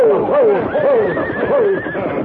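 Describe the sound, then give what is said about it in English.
A frenzied, racing team of two horses, one singed by a bullet, neigh and whinny in quick, overlapping bursts, loud, with a faint clatter of hooves beneath the agitated cries. “As Silver moved in beside the frenzied team, the Lone Ranger reached out to grab one bridle, while Tonto grabbed the bridle of the other horse.”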